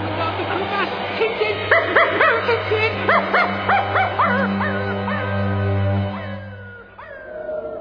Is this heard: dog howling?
yes